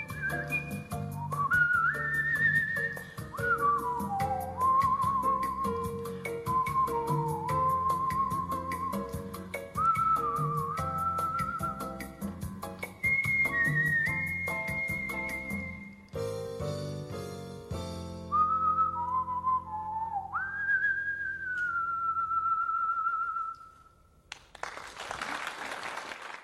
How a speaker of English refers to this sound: Our final word comes from Hollywood legend Lauren Bacall, who was also a whistling coach. You just put your lips together and...